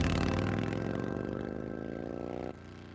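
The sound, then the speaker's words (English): A motorcycle engine revs loudly, its throaty rumble climbing steadily in pitch for a few seconds before dropping off abruptly. No one speaks. “so that almost brought a sense of excitement, the sound of a motorcycle, knowing that I might possibly see my dad.”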